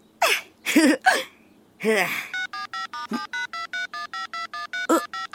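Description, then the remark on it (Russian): A mother's mobile phone rings with a rapid, steady string of short electronic beeps, about a dozen in a row, loud, after a few brief vocal gasps or exclamations. “Ты, это же мамин мобильник.”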